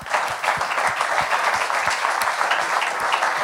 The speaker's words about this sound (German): Jawohl, ein Applaus. Genau.